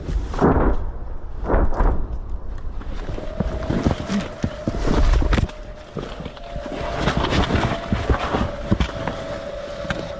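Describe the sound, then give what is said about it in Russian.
Distant artillery shell explosions heard from the front line on the Lyman direction: several deep, rumbling booms and sharper cracks over a windy, noisy background, with a steady droning tone running through the second half. “Над головою літають дрони, а з фронту долітають звуки розривів снарядів.”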